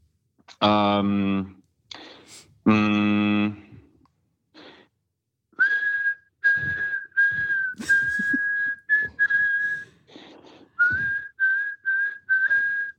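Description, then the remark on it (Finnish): A person whistles a tune up close, a run of clear sustained notes in a steady melodic rhythm, after a couple of loud breathy exhalations at the start. “Hei, hienoa viheltelyä oli ja kaikki tiesi jotakin.”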